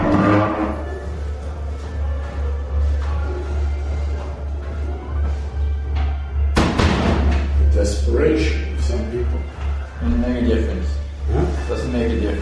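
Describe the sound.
A speaker gets up and pulls a door shut partway through with a single sharp thud, over a steady low hum, and voices can be heard afterward.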